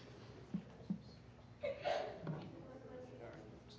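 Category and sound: human body sound, sneeze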